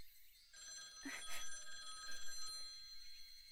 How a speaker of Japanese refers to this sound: あ、電話だ。